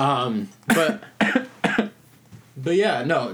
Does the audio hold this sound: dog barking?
no